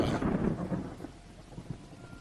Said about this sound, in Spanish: Así que esa misma noche, los jóvenes se dirigieron a la casa tal y como habían planeado, pero con tan mala suerte que empezó a llover.